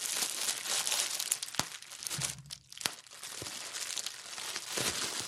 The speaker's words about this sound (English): But I don't know if the sound is something that triggers it or whether it's actually just the feel of it. So we've got some bubble wrap. Do a bit of rustling as well.